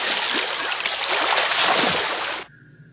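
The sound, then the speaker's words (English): Continuous watery splashing and sloshing, fairly loud, of someone swimming in cold water, stopping abruptly after about two and a half seconds into quiet. “I prefer to swim alone if you don't mind.”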